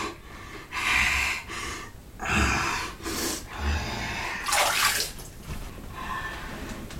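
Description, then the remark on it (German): Water rushes and splashes in uneven surges as a man sets up a birth pool and fills it with water, loud, with breathy hissing bursts mixed in and no talking. “baut Bernd den Geburtspool auf und füllt ihn mit Wasser”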